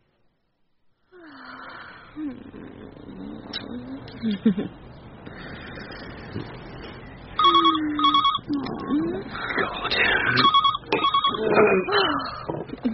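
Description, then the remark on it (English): A telephone bell rings in repeated short double bursts, fairly loud, while a man talks and breathes heavily over it. “You should have left the answer phone on.”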